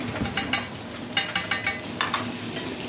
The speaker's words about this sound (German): Mhm, okay. So, jetzt brutzelt das. Jetzt riecht das auch schon richtig gut.